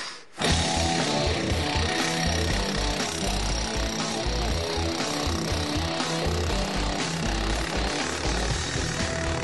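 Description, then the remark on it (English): A loud, continuous rock drill bores holes into Pottsville conglomerate rock, to be filled with dynamite for a coal chute, with water fed into the hole; its dense rapid pounding and grinding roar fills the whole recording without pause. No one speaks over it. “So the job is to drill some holes into the Pottsville conglomerate, yep.”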